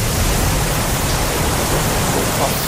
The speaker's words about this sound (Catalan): Va, imagineu-vos que està plovent. Mira, mireu quina tempesta. Mireu.